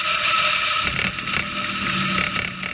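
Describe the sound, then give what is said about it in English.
A military drone's engine buzzes in a steady, unbroken drone, its high whining tone holding constant throughout with a rough, propeller-like rasp underneath. No one speaks. “Then she tells me about the menacing buzzing sound these weapons make. Here it is, captured from a video on YouTube.”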